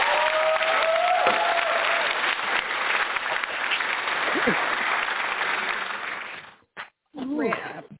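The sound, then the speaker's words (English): A crowd claps steadily and loudly for several seconds, a dense wash of applause that suddenly stops, followed by a brief pause and a voice starting to speak. “Audience, give him a round of applause.”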